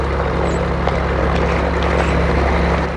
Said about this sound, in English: hair blows about in the draft from the propellers.